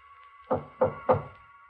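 Three firm knocks on a door in quick, even succession, each a short hollow thud, against a faint steady background hum with no voices.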